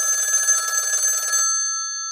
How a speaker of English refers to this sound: And at that point, literally a couple seconds later, after feeling that way, the phone rang.